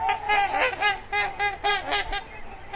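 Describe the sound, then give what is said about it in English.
Trumpeter swans, the world's largest water birds with wingspans up to 9 feet, call in a series of loud, brassy honks, about eight overlapping calls in quick, uneven succession, with no voices present. “With up to 9-foot wingspans, trumpeter swans are the world's largest water birds.”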